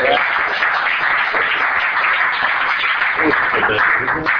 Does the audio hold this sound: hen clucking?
no